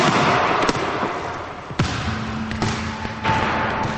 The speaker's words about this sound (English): Jack frowns and throws the basketball as hard as he can against a wall.